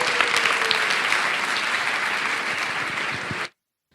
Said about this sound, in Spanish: Y les quiero dar las gracias también, y creo que este aplauso debería ir para ellos, ya que tengo la oportunidad, a mis compis de Yes We Cast, que se han currado unos podcast days tremendos desde allá arriba.